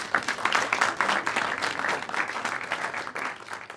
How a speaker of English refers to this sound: I don't know, sound effect, applause.